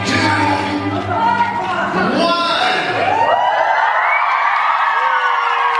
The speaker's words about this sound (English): When the minute was done, everyone was screaming, cheering.